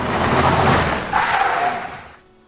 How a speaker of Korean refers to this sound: 내가 브레이크를 밟은 다음에도 저쪽 자동차는 이쪽을 향해 상당한 속도로 계속 미끄러져 오는 듯 했다. 산허리를 돌 땐 경적을 울렸어야 했는데 내가 실수했어. 눈길이었기에 망정이지. 눈길이 아니었으면 속력을 냈을 텐데 그랬다면 여지없이 정면으로 충돌하고 말았을 거야. 상대편 자동차는 거의 다을락말락하게 앞에 와 멈춰섰다.